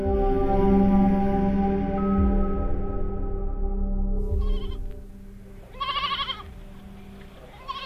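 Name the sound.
goats bleating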